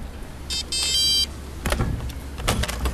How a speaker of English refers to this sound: Wow, okay, so you just opened the door with your hand. Yep. Thanks to a microchip underneath the skin. Exactly.